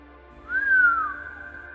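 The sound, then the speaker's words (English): A single soft, low human whistle from a man leaning over for a look, rising briefly then slowly gliding downward, lasting under a second, over a faint steady background hum. “leans over for a look and lets out a low whistle.”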